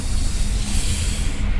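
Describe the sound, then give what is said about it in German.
A train braking, probably as it stops at München-Ost, heard as a steady, loud hiss of air over a continuous low rumble from the carriage, with no voices and no clear change across the short stretch. “Oh, wir bremsen.”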